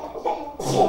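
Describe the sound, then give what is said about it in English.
A child sneezes once: a brief breathy build-up followed by a sharp, hissing burst near the end. “Bless you, ….”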